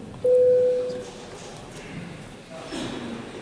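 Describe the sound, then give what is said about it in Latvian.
A parliament voting bell signal, rung before a vote on a proposal: one loud, steady mid-pitched electronic tone held for under a second, then fading into a low murmur of background noise. “Lūdzu zvanu, balsosim par sesto deputāta Platpera iesniegto priekšlikumu.”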